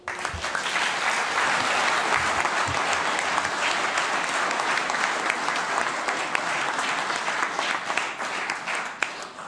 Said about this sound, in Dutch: dat daverend applaus dat was helemaal voor jou. Je eerste toespraak als kinderburgemeester, ook ja, supergoed.